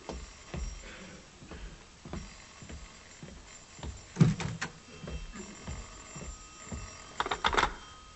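An old-style telephone bell rings in two short bursts a few seconds apart, clear, with no one speaking.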